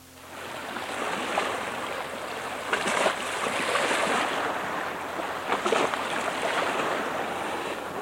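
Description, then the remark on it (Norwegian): Waves wash steadily against the shore at Marifjøra in innermost Lustrafjorden, Luster, Norway, in the morning, a broad continuous roar with a few sharper splashes as individual waves break, fairly loud, with no voices. “Ja, det ikke akkurat så vanlig med sjøgang her inne I innste Lustrafjorden, hen I Eikum, Rotrud, men disse bølgene som slår mot land her I Marifjøra I førmiddag”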